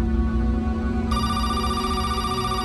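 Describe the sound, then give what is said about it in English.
A telephone rings steadily and fairly loud early in the morning, a sustained electronic ringtone with bright, buzzy overtones that sharpen partway through, with no voices present. “And my phone rang pretty early in the morning, and there was an individual on the line from Special Crisis Team with International Mission Board”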